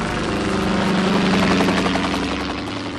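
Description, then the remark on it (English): A helicopter sound effect roars overhead, its rotor thumping in a steady rapid pulse over a dense, continuous engine drone that stays loud throughout. “A virtual helicopter virtually overhead.”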